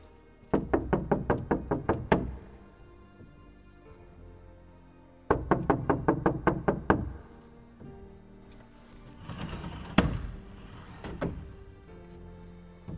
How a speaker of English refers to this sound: And the servant led the Talmidei Chachamim, the delegates from the city of Prague, to a small little house on the outskirts of the city of Lvov, broken down, very modest looking house. They came to the door and they knocked on the door.